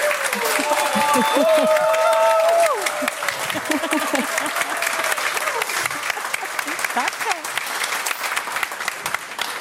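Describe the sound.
An audience applauds steadily for several seconds, a dense, even wash of clapping, with a few tonal sounds and voice-like traces mixed in early on before the clapping continues alone.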